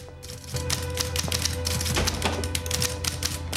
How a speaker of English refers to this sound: dismisses her by putting his glasses back on and returning to his typing.